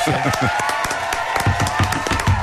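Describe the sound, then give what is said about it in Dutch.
A crowd applauds and cheers loudly, with dense, steady clapping filling the short stretch and voices calling out over it. “Applaus.”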